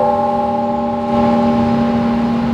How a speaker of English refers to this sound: was one of several passers-by who stopped to listen to the toll of bells at Chicago's Holy Name Cathedral.